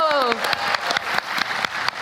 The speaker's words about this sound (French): Moi, je pense qu'on peut les applaudir. Hein. Ouais, ouais, on peut vraiment les applaudir. Kiffeurs. Bravo !